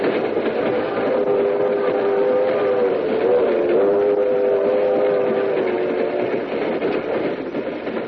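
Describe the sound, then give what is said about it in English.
A train rumbles steadily and loudly, its sustained steam whistle droning over the clatter for the whole stretch. There is no talking. “We'll meet you on the train.”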